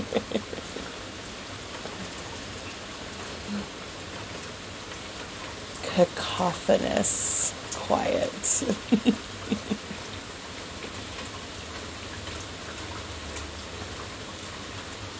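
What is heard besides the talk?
rain pattering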